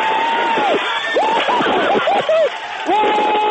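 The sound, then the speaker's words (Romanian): The mission control room in Pasadena, California bursts into sustained applause as the Curiosity rover lands safely on Mars, dense clapping mixed with excited whoops and cheering voices rising over it, loud and continuous throughout. “Curiosity a ajuns în siguranță pe suprafața planetei Marte, după o călătorie de 8 luni și 566 de milioane de kilometri prin spațiu, centrul de comandă de la Pasadena, în California, a izbucnit în aplauze.”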